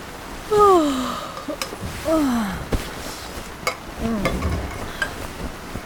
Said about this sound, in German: Regen, Regen, Regen. Wie lange soll das denn noch weitergehen?